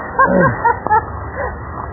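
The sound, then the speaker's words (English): A dog lets out a few short, pitched barks and yips in quick succession, moderately loud against a muffled, narrow-sounding background. “Oh, no, that's another dog.”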